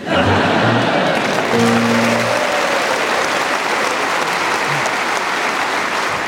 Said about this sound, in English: And still you clap.